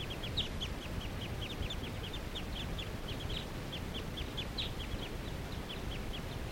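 A flock of wild birds calls steadily, a rapid stream of short, high chirps repeating throughout over a constant low rumbling background, with no talking.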